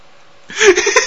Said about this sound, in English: The dog made a horse sound. The dog whinnied.